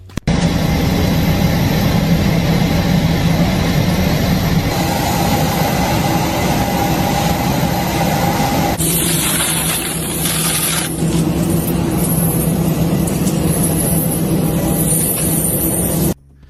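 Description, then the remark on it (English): A steady, loud jet aircraft engine roar on a deportation flight, from a video posted on the official White House Instagram account, with heavy low rumble and broad hiss throughout, shifting in tone about halfway through as a brighter whine joins in, with no voices. “So those were, well, what they called it was ASMR illegal alien deportation flight.”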